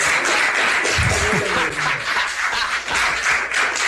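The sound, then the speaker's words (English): An audience at a council meeting applauds after a public speaker finishes, a steady, dense wash of clapping that holds at an even loudness for the full few seconds, with a faint murmur of voices underneath. “No applause. No applause.”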